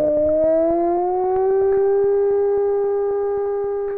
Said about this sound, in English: You take a dolphin whistle and you slow it down. It sounds just like a wolf howl. Well, let's have a listen to that, shall we? This is a slowed down dolphin whistle.